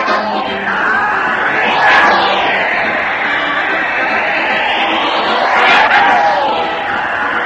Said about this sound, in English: Listen to that crowd cheer Fred Allen as he heads his weekly parade to the old Town Hall